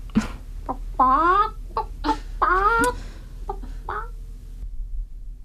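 Chickens cluck in a quick series of short clucks and rising, squawky calls, some bursts overlapping, over a low steady background hum.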